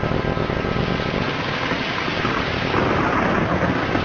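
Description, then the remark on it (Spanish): A dense, steady roar of torrential rain pours down without pause on a Sunday in El Carmen de Viboral, Colombia, loud, with a low rumbling undertone and no voices. “Domingo y una lluvia torrencial se posa sobre el Carmen de Viboral, mientras algunos devotos se escampan en la iglesia y otros cuantos en los bares y tabernas de su parque principal.”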